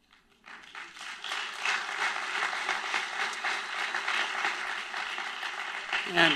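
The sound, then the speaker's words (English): An audience at a political speech breaks into sustained applause after a promise to release tax returns, a dense, steady wash of many hands clapping that swells and holds for several seconds before tapering slightly at the end. “You can clap for that.”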